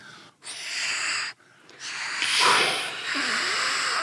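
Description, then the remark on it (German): Ole, a blue owl, snores in his nest with snuffling breaths, airy and wheezy, in three drawn-out pulls separated by brief pauses, the last one louder and longer with a hissing rasp. No one speaks. “Der feine Herr Nachtaktiv liegt noch in seinem Nestchen und schnorchelt vor sich hin.”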